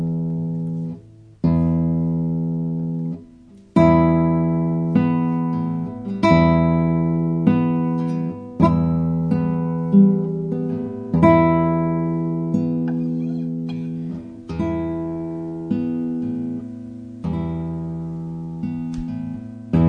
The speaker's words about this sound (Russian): А сейчас я хочу вам сыграть колокольный перезвон.